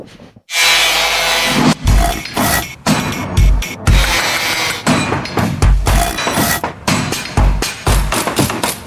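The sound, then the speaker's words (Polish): A loud Radio Wnet programme jingle for 'Radiowa Kronika Budowy', built from construction-style sound effects: repeated crashing, breaking hits and harsh sawing-like noise in punchy rhythmic bursts, with no one talking. “A zanim wrócimy do Gorlic, to jeszcze nas czeka dżingiel.”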